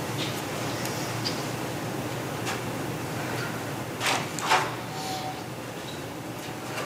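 A door shuts with a couple of soft knocks and a brief latch click as a woman walks out of the room and closes it behind her, set against steady background hiss in an otherwise quiet space with no one speaking.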